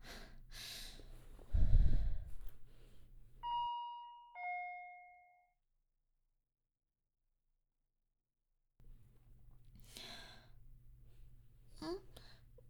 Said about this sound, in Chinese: 好了好了，按门铃吧。